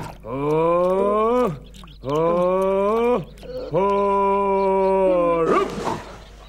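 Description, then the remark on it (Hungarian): A donkey brays three times in long, loud, drawn-out calls, each rising slightly in pitch and separated by brief pauses, ending with a short breathy, raspy gasp. “Hiszen ez a szamaram volt.”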